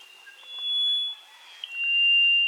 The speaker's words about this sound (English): There, instead, you might hear a rufous-throated solitaire singing in the dense mountain forest.